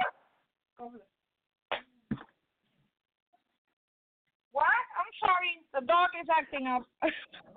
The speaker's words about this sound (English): Sorry, the dog is acting up. Dog is sabotaging my show.